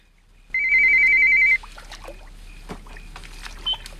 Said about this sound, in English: then looks round in horror at the ringing phone.